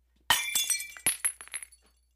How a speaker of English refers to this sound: Supposedly, while they were doing this, one of the aunts noticed a vase sitting on a nearby table. Just like the chair, it was floating in mid-air. Just as she pointed to the vase, it was hurled across the room and smashed into a wall.